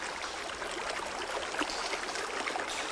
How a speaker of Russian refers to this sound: В ней собралось много капелек. Все вместе они опустились все глубже, глубже. И в конце концов родили под землей свой собственный подземный ручеек.